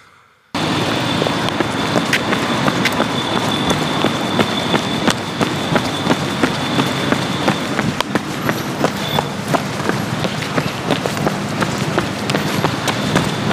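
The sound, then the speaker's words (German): Quick, hurried footsteps of someone rushing to catch a bus strike a sidewalk of square stones in a steady, rapid rhythm of sharp taps, heard over a constant broad rumble of background noise, with no voices. “Und da musste ich schnell zur, man hört es, wenn man, ich hatte es eilig, weil der Bus war da.”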